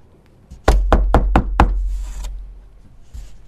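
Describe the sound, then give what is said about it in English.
Five sharp knocks on a door in a quick, even rhythm, loud and solid with a deep thud to each, followed by fading quiet and a faint rustle. “A man comes to the door and he knocks.”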